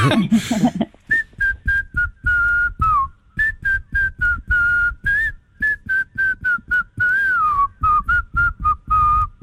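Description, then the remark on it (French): A person whistles a lively birdlike song imitating a nightingale, with rapid chirps, trills and sliding high notes broken by short pauses, loud and unaccompanied after a brief opening noise. “Ou plutôt au rossignol. Chante, rossignol, chante.”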